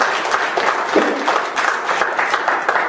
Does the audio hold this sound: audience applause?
yes